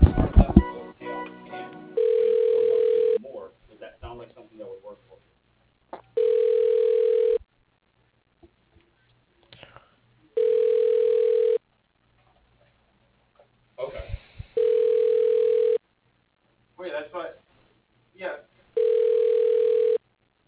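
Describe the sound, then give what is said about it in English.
A telephone ringback tone purrs in five evenly spaced bursts while a call to a business is being transferred, each burst about a second long and separated by quiet gaps with faint clicks and line noise, the steady mid-pitched tone repeating unanswered. “And thank you for calling. Your call is being transferred.”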